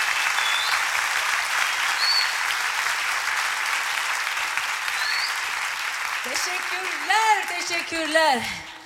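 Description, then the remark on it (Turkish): A crowd applauds steadily, a dense wash of clapping that fills the whole stretch; near the end a man's voice starts talking over the fading applause. “Alkışlara ben bir dilek atarım size.”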